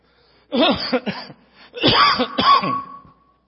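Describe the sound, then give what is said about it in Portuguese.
A man coughs and clears his throat in two rough bursts separated by a short pause, the second burst longer and strained, trailing off into a faint rasp. “Eu podia ficar em casa, tossindo lá em casa, bem tranquilo, né?”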